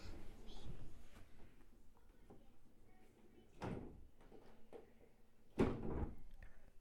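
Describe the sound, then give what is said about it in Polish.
A door is worked open and shut, giving two broad thudding knocks a couple of seconds apart, the second louder, over a murmur of background noise and faint voices. “Czy ty wcześniej używałaś tych drzwi?”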